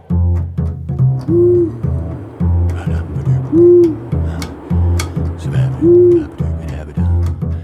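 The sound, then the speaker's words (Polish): Owl hoots ring out three times at even intervals, each a rising-and-falling call, over a steady low droning background. There is no talking. “Dziś sprawdzałem i te sowy tam nadal są.”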